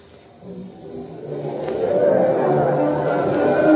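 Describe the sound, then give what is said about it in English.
A dense crowd chattering and murmuring at a preparedness day parade in San Francisco, with bands playing and people laughing and cheering, starting softer and swelling louder after the first couple of seconds into a steady, busy wash of many overlapping voices. “Bands were playing, people were laughing, cheering, and...”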